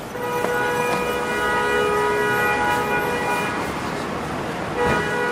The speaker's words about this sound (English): New York City, the city that never sleeps, a vibrant soundscape of construction, trains, traffic. New Yorkers hear it 24 hours a day, 7 days a week.